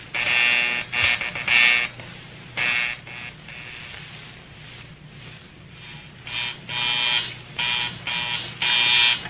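A field telephone rings in short, harsh buzzing bursts, irregularly spaced in two clusters with a quieter gap between them, as the phones at the stations are rung during a phone check. The tone is rough and reedy, with a low hum underneath and no voices.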